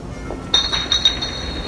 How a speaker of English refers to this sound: Rhino, who is in front, knocks over a liquor bottle in the dim hallway.